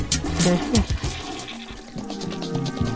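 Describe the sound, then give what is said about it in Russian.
A toilet flushes after its lever is pressed, a steady rush of gurgling water lasting the whole few seconds, with brief voice-like sounds near the start. “Нажми на рычаг и уходите по делам.”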